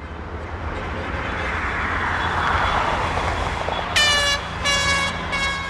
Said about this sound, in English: At high noon Sunday, the first cars and motorcycles of the weekend drove honking and cheering through a stretch of the 405 freeway that was completely closed down midnight Friday.